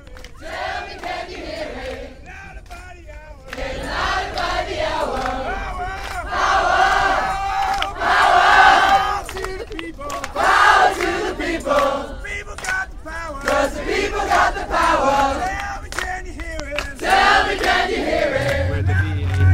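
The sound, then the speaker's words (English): A climate camp protest crowd chants in the car park of BAA's headquarters at Heathrow, on the A4 Bath Road, on the day of action. Many voices shout together in loud rhythmic bursts that swell after a quieter opening and keep going with rising and falling intensity. “In the face of 1,800 police, including police on horseback and riot police, over 800 people left the back gate of the climate camp on the day of action to head to BAA's headquarters.”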